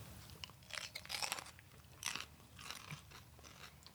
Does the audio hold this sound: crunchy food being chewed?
yes